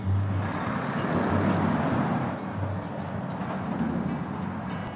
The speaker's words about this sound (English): Here we are at the terminal, cars and lorries and motorbikes going on.